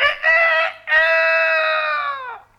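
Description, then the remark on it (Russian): A rooster crows once, loud: a short opening note, a brief break, then a long sustained call that drops in pitch at the end. No other sounds. “Вы, конечно, понимаете, что осел только открывал рот, а кричал спрятавшийся под окном петух.”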